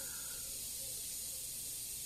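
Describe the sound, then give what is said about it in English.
A steady, unbroken hiss of air conditioning blowing air into a soundproof room, bright and airy with no pauses or changes in pitch, fairly quiet and heard alone with no talking. “Oh, there's some kind of, like, hissing noise.”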